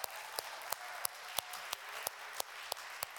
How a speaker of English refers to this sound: Can somebody clap their hands and say thank you, Lord?